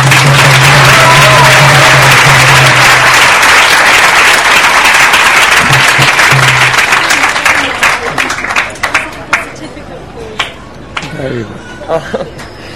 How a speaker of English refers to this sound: And I would particularly like you to thank your teacher by just joining each one of us in just a round of applause. And thank you.